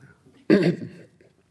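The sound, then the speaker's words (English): A single short sip and gulp of a drink, a brief throaty burst lasting about half a second, then quiet, with no talking. “Let me take a sip first.”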